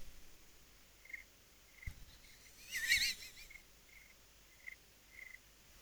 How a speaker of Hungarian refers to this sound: Most közelebb a telefont a tücsökhöz. Menj oda a tücsökhöz. Menj közel. Zseni.